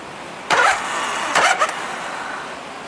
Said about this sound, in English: It started raining again, so all that background noise you're all hearing is the rain hitting the roof of my metal building.